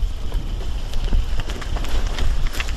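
Hurried footsteps of people running over rough ground outdoors to a firing position, a quick uneven patter of thuds, with wind buffeting underneath and no talking.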